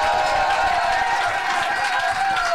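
A loud, steady burst of audience applause for the last performer of a show, dense clapping filling the whole moment, with cheering or whistles rising over it and no pause throughout.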